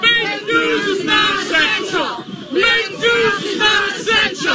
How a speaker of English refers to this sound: So that's a New York reporter who was at an anti-lockdown protest, and the protesters started screaming at the reporter.